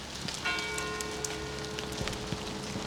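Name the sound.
rain falling outdoors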